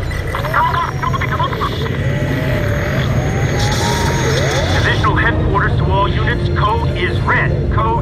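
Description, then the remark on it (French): A steady motorized buzz like a small drone hovering, droning continuously beneath a busy mix of indistinct voices and background hum. “Il y a des drones. On va essayer de s'approcher.”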